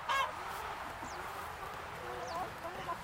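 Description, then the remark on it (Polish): Hens cluck and murmur in a poultry yard, several birds calling softly at once over steady outdoor background noise, with a brief louder squawk near the start. “Słychać, że kury są na swoim miejscu i są zadowolone z tego, gdzie są.”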